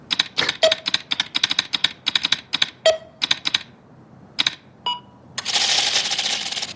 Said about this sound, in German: Und das klingt wie das Monster, oder? Dieses Klackern, finde ich immer. Ja. Also wenn sich dieser Timer zurücksetzt, das Klackern klingt genauso, wie wenn das Monster so klackert.